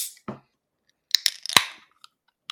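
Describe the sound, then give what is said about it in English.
A can of Stella Artois beer cracked open: a couple of sharp metallic clicks, then a louder snap and a short fizzing hiss that fades within half a second. No one speaks. “I chose to break out a little Stella Artois, which I'll get the crack.”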